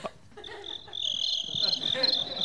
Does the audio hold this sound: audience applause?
no